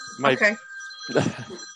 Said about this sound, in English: My cell phone was going through my computer.